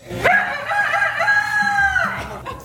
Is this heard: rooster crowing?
yes